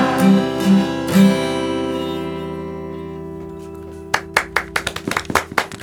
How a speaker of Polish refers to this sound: No tak musiałem rozpocząć te brawa, no bo to przecież tak pięknie.